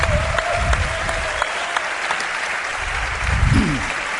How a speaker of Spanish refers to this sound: Os pido un aplauso para él, antes se lo habéis dado.